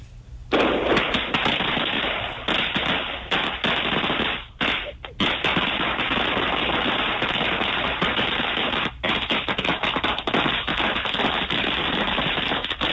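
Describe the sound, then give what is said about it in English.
A long string of firecrackers crackles in rapid, continuous bursts, loud, popping almost nonstop for several seconds with only brief gaps, throwing sparks into the air. “I think part of me is on fire, actually, because that was a string of firecrackers that threw sparks in the air.”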